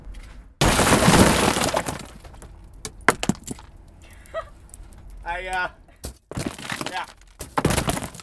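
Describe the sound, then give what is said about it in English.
A loud burst of shattering glass as a car's liftgate window is smashed, followed by scattered tinkling and cracking as fragments fall, with a few sharp knocks and brief voices in between. “Do I want you to smash more glass?”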